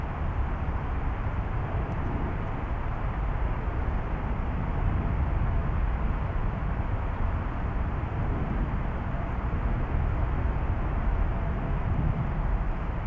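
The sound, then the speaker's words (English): A steady, broad roar of airplane engines high overhead above the clouds, holding an even level with no voices, as planes taking off every two minutes fly from right to left, heard from handrails facing a creek. “Can you now notice the airplanes taking off every 2 minutes? Flying from right to left and carrying their engine sounds high over the clouds.”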